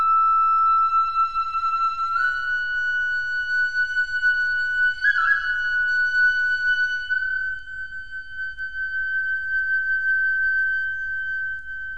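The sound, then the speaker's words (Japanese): A flute, played at night by a young village man on a riverbank, plays long, smooth sustained notes that slowly rise in pitch, a soft, gentle melody heard alone over a faint low background hum. “夜になると新吉という村の若者が川のほとりで吹く笛の音が聞こえます”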